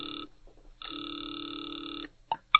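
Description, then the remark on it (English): A distant telephone ring heard through a receiver by a caller in the phone booth of an all-night drugstore in Metropolis: a thin, buzzy ring tone cuts off, pauses, then rings again for over a second, followed by a couple of sharp clicks. “Now he waits, the ringing of a distant phone in his ears.”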